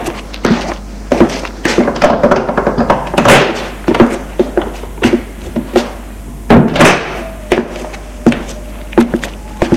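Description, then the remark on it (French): A door off a large hallway is opened into a spacious living room, a busy series of wooden thunks, latch clicks and knocks spread across several seconds, with no voices. “Puis ouvre une porte.”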